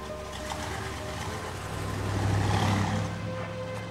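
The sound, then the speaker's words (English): A jeep engine rumbles steadily with a low droning hum, swelling louder around the middle as it reverses and pulls off, then easing back slightly toward the end. “Tansy waves to Rick as he reverses the Jeep and drives away.”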